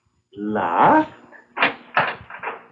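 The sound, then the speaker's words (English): A door swings open on a long, wavering hinge creak, followed by three short, dull clunks. No one speaks. “The door isn't locked. We tried the door. We couldn't open it. Well, it's open now. Because you opened it.”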